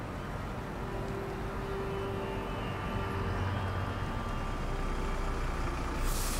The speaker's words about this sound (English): She grabs it just as the bus pulls in. The number on the front reads 505.